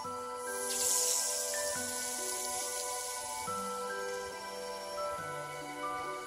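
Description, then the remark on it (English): A soft, airy spraying hiss, as a thumbnail-sized spider sprays out a 25-metre silk bridging line across a wide river, rises briefly near the start and fades, set against sustained, slowly shifting musical tones that continue throughout. No one speaks. “When it's all reeled in, she sprays again. Out streams another 25-metre bridging line.”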